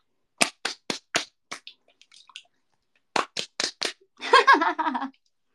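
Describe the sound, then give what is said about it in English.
Sharp slaps of hands covered in body milk on thighs: a quick run of five, a short pause, then four more in steady rhythm, followed by a brief burst of voice. “Ooh, let me slap my thighs with the body milk on my hands.”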